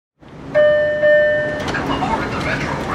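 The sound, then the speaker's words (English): Subway station ambience at Union Station in Los Angeles, by the escalator down to the Red Line train: a sustained two-tone chime or train horn rings for about a second over a steady rumble, with indistinct commuters' voices murmuring throughout. “The morning rush may have slowed to a trickle, but two police officers are still surveying the commuters on the escalator down to the Red Line train.”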